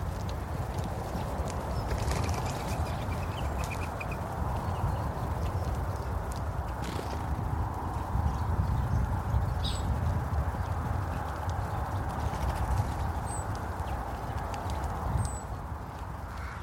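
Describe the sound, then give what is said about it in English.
Collared doves' wings whistle in flight: a steady, rapid rhythmic fluttering that runs unbroken for the whole stretch, with a few faint high bird chirps scattered on top. “And when they fly, their wings whistle.”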